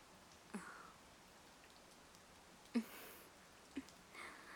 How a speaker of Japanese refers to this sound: そういえばあの時も雨降ってたな。